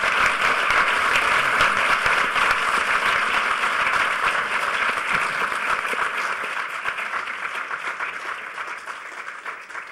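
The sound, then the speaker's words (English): A conference audience applauds the panelists at the end of a two-hour panel, steady dense clapping for several seconds before gradually thinning and fading toward the end. “Give a huge round of applause to our panelists.”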